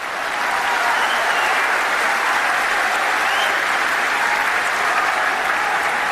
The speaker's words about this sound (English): MashaAllah, you have made them more happy than my talk. See, MashaAllah. So many clap, MashaAllah. Imagine you have made more than 5,000 people here happy.